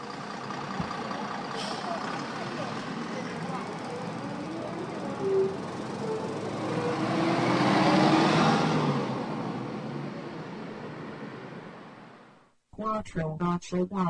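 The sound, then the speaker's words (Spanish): A city bus, the free route 484 bound for Leganés, rumbles, its engine swelling louder as it pulls away and then fading, with street traffic noise throughout; a voice briefly speaks at the very end. “¿Qué precio tiene el billete? No, pero esta 484 es gratis. ¿Dónde va? Pues a Leganés”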